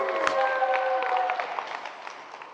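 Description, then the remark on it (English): A crowd applauds steadily for a couple of seconds, a dense wash of many hands clapping that gradually softens, with faint sustained musical tones beneath it early on. “You want to clap for her sister?”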